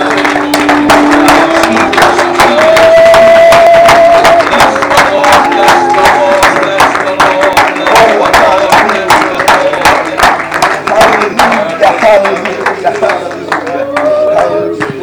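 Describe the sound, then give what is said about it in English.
An audience at a church service claps their hands unto the Lord in a steady, rhythmic beat that continues throughout, loud, with voices and crowd noise rising underneath. “Oh, let's clap our hands unto the Lord here tonight.”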